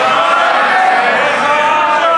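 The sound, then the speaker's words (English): A dense, loud roar of many members of the British Parliament shouting at once, sustained without pause for a couple of seconds, with no single speaker standing out from the din, as the Prime Minister tries to speak. “Order, there's no good people shouting.”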